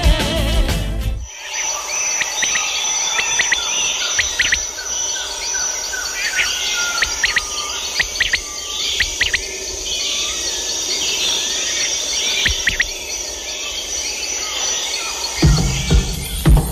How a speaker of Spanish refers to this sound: Sonidos maravillosos que tiene nuestra selva amazónica, ese canto de nuestras aves que es tan importante y las aves cumplen una labor tan maravillosa en nuestras selvas.